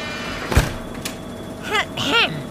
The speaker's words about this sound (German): Die Baustelle ist aber laut. Ich mach mal besser das Fenster zu.